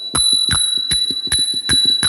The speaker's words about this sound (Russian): И там, в Таиланде, когда я был, я увидел тайский колокольчик. И сейчас будет звучать колокольчик.